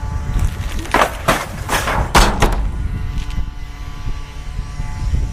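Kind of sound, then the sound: machine, leaf blower running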